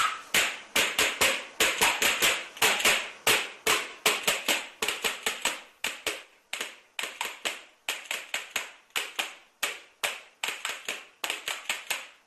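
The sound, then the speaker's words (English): Rapid, sharp clacking of spoons (lozhkas) struck together as a football fan noisemaker for the Russia 2018 World Cup, a steady stream of bright, percussive clicks in quick bursts with brief pauses, no voices. “Well, make way for Russia 2018 and the Spoons of Victory.”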